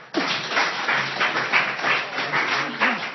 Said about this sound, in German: Und ich glaube, das ist in unserer heutigen Zeit ein Applaus wert.